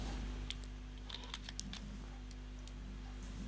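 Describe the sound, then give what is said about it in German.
Scissors cutting into crinkly plastic packaging, heard as a few soft, brief crackles and snips clustered early on, fairly quiet over a steady low background hum, with no one speaking. “Das ist nochmal verpackt. Jetzt brauchen wir doch nochmal eine Schere.”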